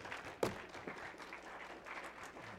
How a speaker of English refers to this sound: Well, give the Lord a clap offering. Hallelujah.